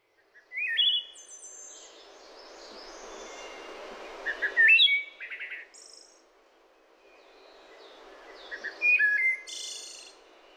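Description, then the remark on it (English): A wood thrush sings clear, flute-like phrases in three separated bursts, each ending in a high trill, over a steady wash of insect buzzing in the background. “Yeah, we sit on our screened-in porch, which is her idea, too, to listen to this wood thrush.”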